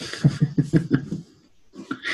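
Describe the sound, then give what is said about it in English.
A small dog sitting in a person's lap snuffles and grunts, a quick run of five or six short, throaty puffs, then a pause before softer snorty breaths return. “And sweet little dog sitting in her lap.”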